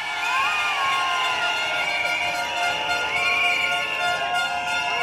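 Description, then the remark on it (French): A large crowd of medical interns at a street demonstration in France against Marisol Touraine's reform project, shouting and cheering continuously, many overlapping voices rising and falling in dense, loud waves with no single speaker standing out. “Les internes, je vous entends crier.”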